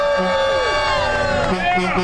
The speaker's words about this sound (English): Let's hear the crowd.